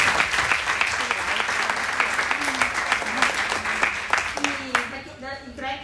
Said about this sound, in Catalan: crec que mereixen un aplaudiment perquè s'ajuntin d'aquí.